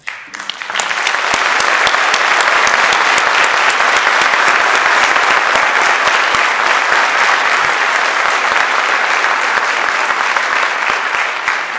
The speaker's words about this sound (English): The four groups we honor today have carried that message forward, and I ask you to join me in applauding their efforts.